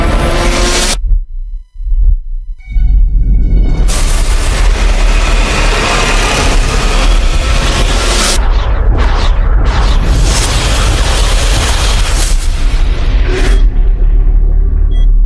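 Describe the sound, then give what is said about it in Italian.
Loud explosions and crashing aircraft amid fires everywhere: deep booming blasts and a heavy, continuous rumbling roar, broken by a brief lull near the start, with no voices. “È un inferno lì fuori. Incendi ovunque. Aerei che si schiantano.”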